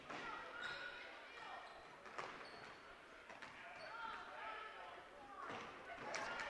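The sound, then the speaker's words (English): A loose basketball thumps against a hard court at midcourt a few times at irregular intervals during a girls' basketball game between Maryville and Chillicothe, set against the steady roar of a crowded gym with voices and shouting throughout. “Loose basketball in midcourt.”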